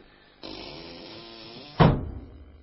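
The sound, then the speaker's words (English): A door to a passage swings for about a second with a steady, rough creaking rush, then shuts with a single heavy thud that rings out briefly. No voices are heard. “Swing the door shut when I'm safely down in the passage.”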